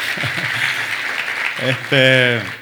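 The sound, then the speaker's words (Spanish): A full-house audience at a religious service claps in a dense, continuous wash, with a few voices calling out over it and a louder sustained cheer near the end. “Vamos a aplaudir por eso, buenísimo, ¿verdad?”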